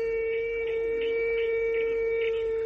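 A cricket chirps in steady, evenly spaced pulses over a constant high-pitched whine, with no voices present.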